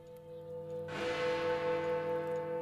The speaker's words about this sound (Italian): Enrico e Giulia erano sulla giostra quando sentirono che il campanile suonò 12 rintocchi. Al 12° rintocco tutto tornò reale.